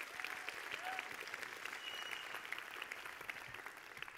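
Sustained audience applause, a dense, steady wash of many hands clapping at an even loudness for the full few seconds, with no one speaking over it.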